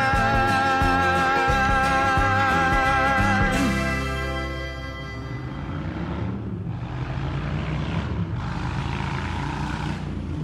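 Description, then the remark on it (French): At a motorcycle event, a loud, droning engine roar with steady harmonic whine fades after a few seconds into a broad, rushing wash of crowd noise that swells in waves. “Ah, la foule, là, bah, là vous l'entendez, hein, c'est le magazine de la moto, hein, c'est sur Campus 106,6.”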